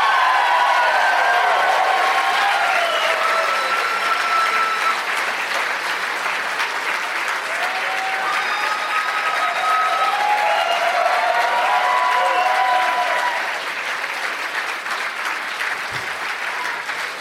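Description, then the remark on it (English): A crowd in Tempe breaks into loud, sustained applause welcoming guests Josh Wolf, Jay Moore and Mark Wahlberg, with dense steady clapping and some cheering whistles, holding strong for about thirteen seconds before easing slightly. “Let's give a big warm welcome, Tempe, to Josh Wolf, Jay Moore, and Mark Wahlberg.”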